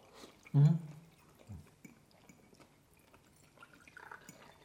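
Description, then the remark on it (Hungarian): Red wine poured: a loud glugging splash near the start, then quieter drips and trickles, with faint murmuring voices in the background. “Lassz a vörös bort.”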